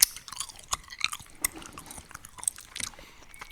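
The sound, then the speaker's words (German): Wet chewing of a soft, gummy Swizzles candy right against the mic, with irregular smacks and squelches and a few sharper crunchy bites, no talking. “Hör auf, ins Mikrofon zu kauen.”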